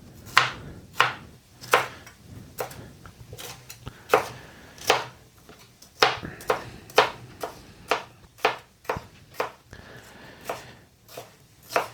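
A knife chops a red bell pepper into strips on a board in a quick, steady series of crisp, sharp taps, roughly two per second, with no talking.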